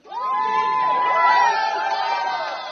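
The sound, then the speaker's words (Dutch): Guests at a Ukrainian couple's wedding, held underground in an apartment building's bomb shelter in Kyiv, cheer loudly and steadily for a few seconds, one high, sustained whoop riding above the mass of overlapping shouts and voices. “Je hoort hier een bruiloft van een Oekraïns stel gisteren in Kiev.”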